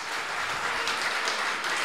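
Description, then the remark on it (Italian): A crowd applauding steadily, dense clapping at an even, fairly loud level throughout the short stretch, with no voices over it. “applauso a questa cosa.”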